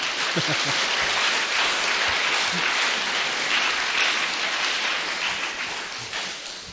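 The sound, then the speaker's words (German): A crowd at an evening welcome event claps steadily for several seconds, a dense wash of many hands with no pauses, fairly loud, tapering slightly toward the end. “Schaffen wir das, einen Applaus zu geben?”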